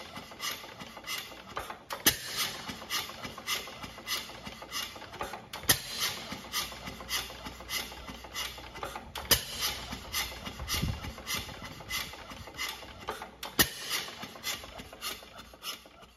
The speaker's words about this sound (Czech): Zdá se vám ten chod motoru takový nějaký prapodivný? Že to snad nějak vynechává, ale to je v pořádku. To, co slyšíte, je typický zvuk motoru s vysmekovacím rozvodem.